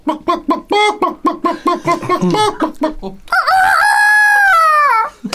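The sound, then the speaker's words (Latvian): A person imitates a bird call loudly: a quick run of hen-like clucks followed by one long, drawn-out rooster-style crow. “Vai jūsu kopā ir kāds, kurš vēl var kādu putnu atdarināt?”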